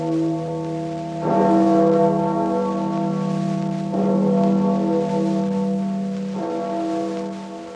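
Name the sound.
church tower bell ringing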